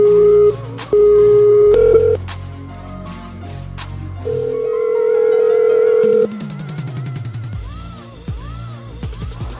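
A radio station on Rap Fest Radio phones a rap artist on air: short electronic telephone tones as the number is dialed, followed by a sustained steady tone and warbling ring signals, clear with a busy musical bed underneath and no one speaking.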